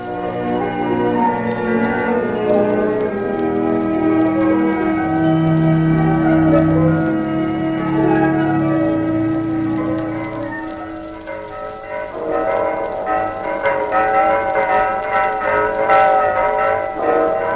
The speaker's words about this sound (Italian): Alla domenica, queste campane, le campane di San Pietro, preannunciano la trasmissione della Santa Messa.